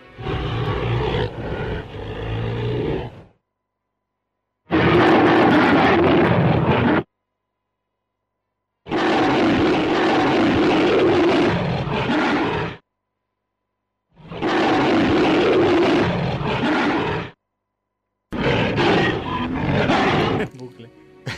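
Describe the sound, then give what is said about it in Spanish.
A giant ape's roar, the sound effect from the first Kong film of 1933: five loud, harsh roaring bursts, each a few seconds long, separated by brief silences, with no talking. “Así que, como suena esta canción, vamos a escuchar cómo sonaba este mono en esta canción, en esta versión, la primera del 33.”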